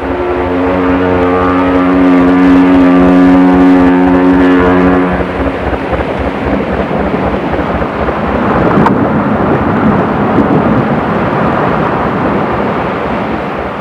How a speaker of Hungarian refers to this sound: Huck, a hajó! Vigyázz, egyenes ránk!